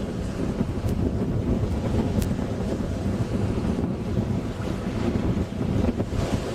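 Waves washing onto a shore in a continuous rushing roar, heavily mixed with loud wind buffeting the microphone, with no voices.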